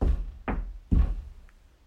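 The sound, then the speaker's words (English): Three firm knocks on a door, evenly spaced about half a second apart, each a solid thud with no voices around them. “to the double doors with the skull on top, and she knocked 3 times.”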